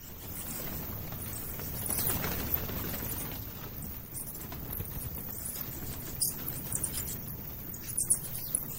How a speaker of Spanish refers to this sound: Oímos primero a los murciélagos aleteando y revoloteando a nuestro alrededor, y luego oímos lo que oye un traductor de ultrasonidos.